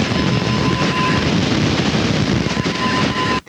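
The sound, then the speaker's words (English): A thin, steady heterodyne whistle on AM radio, coming from a station on 891 in Algeria, rides over loud, dense hiss and crackling static. The tone fades partway through, returns near the end, and everything cuts off abruptly. “90 is a station from Cuba, I believe, and the whistle comes from 891, which is over in Algeria, in West Africa.”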